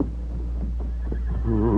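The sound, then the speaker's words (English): A horse neighs, its whinny rising and wavering loudly toward the end over a low, steady rumble of background noise, with no one speaking, as the Lone Ranger ropes it with his lariat and brings it to a stop. “Quickly, the Lone Ranger crawled through the fence, and in a moment had roped the horse with his lariat and brought him to a stop.”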